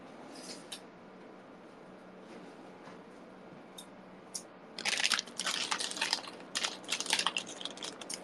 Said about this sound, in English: Okay, I'm gonna open my blueberries. You know, this is sort of like ASMR, right? Where's my scissors?